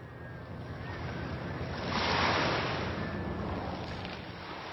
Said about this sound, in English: Waves are crashing against Front Beach in Unalaska